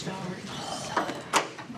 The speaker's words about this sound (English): The door